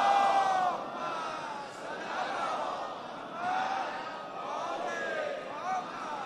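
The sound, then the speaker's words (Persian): A large crowd loudly chants the salawat blessing in unison, many voices blending into a dense, rhythmic roar that swells and dips in waves for several seconds. “به اندازه تمام عمرتون که پا منبر بودید ازتون به فضل الهی صلوات میگیرم.”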